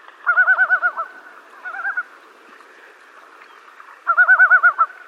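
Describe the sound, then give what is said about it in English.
A loon on a lake gives loud, warbling yodel calls in three bursts, a long one, a brief one, then another long one, over faint background ambience with no talking. “pretty much going through their whole repertoire of vocalizations, yodels, wails, and moans”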